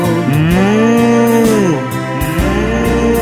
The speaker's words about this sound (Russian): и мычу я с коровою бегаю.